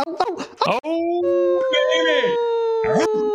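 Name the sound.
wolf pack howling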